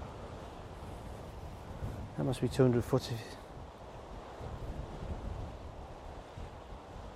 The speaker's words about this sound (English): It's all rocks at the bottom and all the waves crashing.